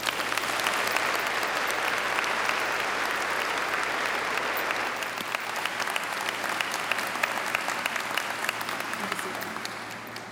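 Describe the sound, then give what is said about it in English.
An audience claps steadily for about ten seconds in recognition of student advisors at a university graduation celebration, a dense, even wash of applause that stays strong throughout without fading much. “Will everyone please join me in recognizing our student advisors with a round of applause?”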